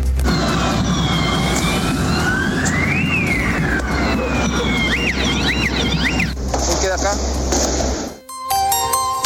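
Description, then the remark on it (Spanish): Several police sirens wail and yelp over a loud, chaotic street din with shouting crowds during street clashes on the Alameda at Estación Central, the sweeping tones overlapping and rising and falling, with a sharp cut and a different siren pattern near the end. “Escuchar ahí distintas sirenas y estruendos que se escuchaban, digamos, en estos enfrentamientos en plena Alameda, a la altura de Estación Central, producto de los distintos desmanes que se estaban desarrollando a esa hora.”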